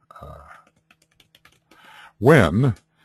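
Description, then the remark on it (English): Light, scattered clicks of typing on a computer keyboard, a handful of soft taps at an uneven pace, framed by brief voiced sounds, with a louder wavering vocal hum near the end. “The nice thing about my bad typing is that, and my bad spelling, is that when I go to do that, you can think about any substance that was offered verbally.”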